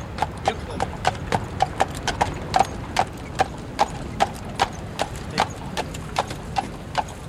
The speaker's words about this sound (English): Can we go to the park? 11:45, Central Park. Oh, Dad, look. What is it? I see some horses.